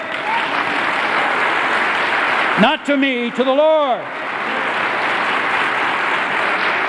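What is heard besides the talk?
audience clapping hands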